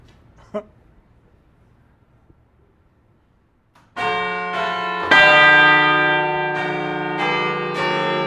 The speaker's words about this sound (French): C'est exceptionnel. Avez-vous, vous nous venons d'entendre 6 cloches. Quand elles se sont arrêtées, à aucun moment vous avez entendu ces effets vibratoires déplaisants quand elles ne sont pas accordées